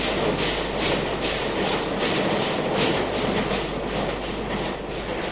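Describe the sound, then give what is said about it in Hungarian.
A train pulls away from a station with a loud rumble and a steady, rapid clickety-clack of wheels on the rails, continuing without pause and with no voices. “Elment a vonat.”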